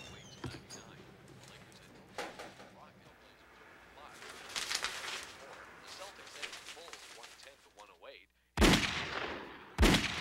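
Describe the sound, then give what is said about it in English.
Two gunshots in the distance crack out about a second apart near the end, sharp and prominent after a brief hush, following a stretch of muffled, rumbling background noise. “Saul heard two gunshots in the distance”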